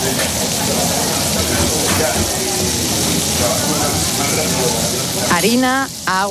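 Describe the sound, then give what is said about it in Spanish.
Steady, dense crackling and sizzling of churros frying in hot olive oil over a beech-wood fire at La Mañueta, a churro shop over 150 years old in the old town of Pamplona. It is loud, and a voice briefly speaks over it near the end. “Se trata de La Mañueta, una churrería con más de 150 años de historia que ha pasado de generación en generación y que suena así.”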